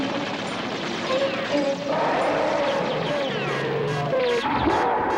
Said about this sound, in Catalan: L'avioneta continua volant vora la bèstia sense deixar de disparar.